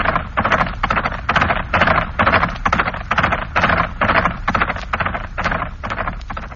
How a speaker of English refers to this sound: And then, the horse's stride broke the 24 threads. 24 camera shutters clicked in quick succession.